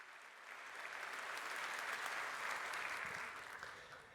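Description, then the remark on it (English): A crowd at Congress claps steadily for about four seconds for the angels, a dense patter of many hands that swells in the first half-second and holds at an even, moderate loudness, with no voices over it. “Yeah, big round of applause for our angels.”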